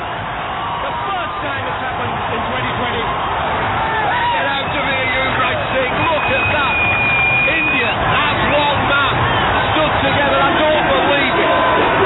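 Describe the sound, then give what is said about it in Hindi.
A large audience claps steadily throughout, the dense applause blending with crowd noise and cheering, loud and continuous from start to finish. “क्या बात है, आप लोग तो ऐसे ताली बजा रहे जैसे लाइव देख रहे.”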